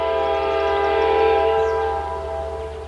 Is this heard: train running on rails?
yes